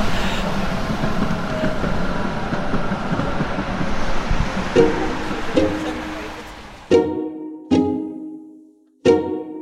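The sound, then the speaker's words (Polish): Heavy trucks passing along a street rumble past in a steady, loud roar of traffic noise, which gives way to three sharp, ringing tonal blasts that cut off abruptly, with silence in between. “I tutaj musimy na razie postawić kropkę, bo boję się, że rzeczywiście ta historia wymaga jednak lepszego tła akustycznego niż przejeżdżające ciężarówki.”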